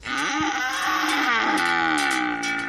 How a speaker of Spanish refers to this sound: El sonido de las vacas por los alrededores del Ministerio de Agricultura. Nueva concentración de ganaderos, en este caso, de los productores de leche de la comunidad para pedir que se cumpla con la ley de cadena alimentaria.